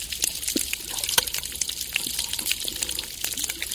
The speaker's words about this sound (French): Des cliquetis de crevettes et le bruit des vagues, captés par Tsuaolin.